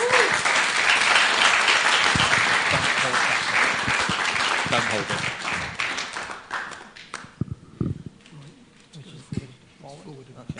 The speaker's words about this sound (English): So I'll give the mic over. Please, would you give a big round of applause